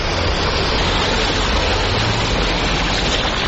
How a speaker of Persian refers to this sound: روزنامه هم‌میهن نوشت که در بندرعباس به دلیل اختلاف ارتفاعی که با زمین‌های بالادست وجود دارد، حتی سیلاب‌های روی تپه‌های شمالی بندرعباس به آبشار تبدیل شدند.